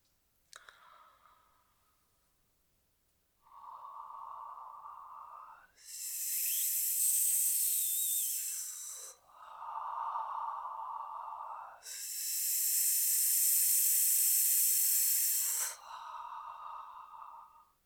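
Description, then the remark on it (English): Steady breath sounds alternate in a breathing exercise: a soft, open breathy "haa" exhale like fogging a mirror, then a bright, sharp hiss, repeated twice over, each lasting a couple of seconds with no talking. “Now, for this next exercise, we're going to combine the first two exercises together and see if we can go from that fogging the mirror ha to our hiss and back and forth, and just play with your breath.”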